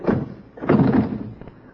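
The locked wooden door of a shack is tried, jolting and thudding in its frame in two dull bursts of rattling knocks, with no voices.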